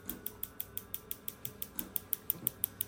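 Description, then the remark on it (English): A prostate treatment device, used to treat the prostate from the external side, ticks steadily and quietly, with about six sharp, crisp mechanical clicks per second repeating evenly for a few seconds, and no voices. “So how the prostate will do, you can hear the sound of it.”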